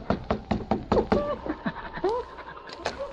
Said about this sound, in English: A short time later, the two Mounties knocked on the door of Hazel's boarding house.